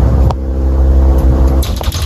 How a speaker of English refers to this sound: Look at it. Wow. Look at this thing. Listen to it. Mm-hmm. Sounds like a lawnmower going. Yep, very loud.